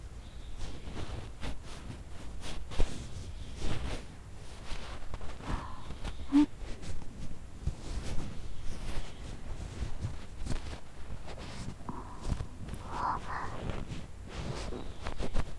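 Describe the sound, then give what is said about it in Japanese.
Hands rub and brush against ears during ear cleaning after a rough first pass with tissue paper, a continuous soft friction with muffled scratchy swishes and occasional light taps, quiet and intimate with no talking. “ほならお耳触るけん、くすぶたくてもチクとの間は我慢してな。”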